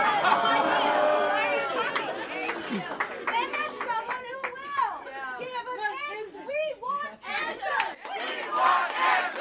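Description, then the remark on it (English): A large crowd protesting at UC, demanding that a UC spokesperson address their complaints, shouts and jeers loudly, many overlapping voices rising and falling in an angry, protesting clamor with scattered claps. “Outgoing interim chancellor Martin Chemers sent assistant Bill Hyder to appease the angry crowd.”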